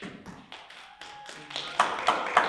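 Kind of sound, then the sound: crowd, audience round of applause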